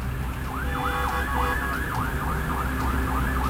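A Carabineros police siren wails in a fast, repeating up-and-down pattern as the unit arrives in the morning on Américo Vespucio, over heavy traffic rumble, fairly loud and steady throughout, with no one speaking.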